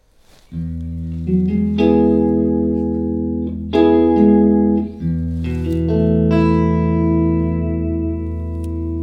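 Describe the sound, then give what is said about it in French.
Clean electric guitar through an amplifier's clean channel with a little of the amp's built-in reverb switched on, strumming sustained chords that ring out and change every second or two, with a soft reverb tail and no talking. “Alors, j'ai oublié de vous dire, mais là, sur cet ampli, on a une reverb qu'on peut activer ou non, avec un niveau de reverb pour le son clean crunch ou pour la disto.”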